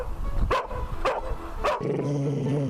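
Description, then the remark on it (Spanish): Dogs bark three times in a steady rhythm, loud, followed by a drawn-out whining, tonal yelp. No one speaks. “Perros, para los que hay que buscarles un cobijo en casos muy concretos.”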